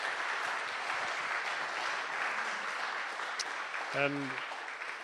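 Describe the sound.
A crowd applauds steadily, a dense, sustained patter of clapping hands filling the room at moderate volume, with a brief voice cutting through near the end.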